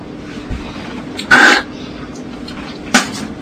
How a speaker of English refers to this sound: Or listen to me sneeze and snore. And sniffle.